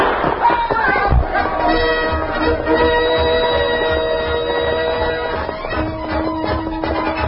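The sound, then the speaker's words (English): A single sharp starter's gun crack near the beginning, starting a horse race, then a busy race crowd roaring and cheering steadily for several seconds afterward. “The starter raised his gun.”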